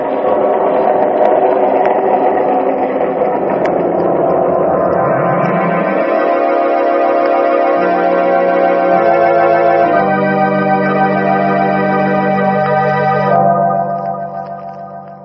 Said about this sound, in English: And the train thunders on.